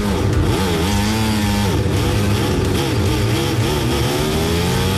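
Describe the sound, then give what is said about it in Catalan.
Loud, continuous roar of racing motorcycle engines revving at a race start, with overlapping rising and falling pitches as several bikes, including three leading Ducatis, accelerate, filling the whole scene without any talking. “Algo amb la moto ha passat. Mira, sentim.”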